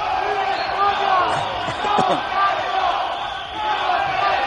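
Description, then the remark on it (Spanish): A large crowd outside the Supreme Court in Madrid shouts and chants together as Carme Forcadell arrives, with cries of "a la cárcel" (to jail) alongside pro-Catalan-independence support: a dense wall of overlapping voices that stays loud throughout, swelling and dipping slightly as individual cries rise above the din. “Con gritos de a la cárcel, pero también mucho apoyo independentista.”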